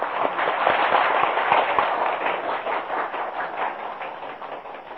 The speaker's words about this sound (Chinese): 我们首先呢，大家鼓掌啊，一致欢迎。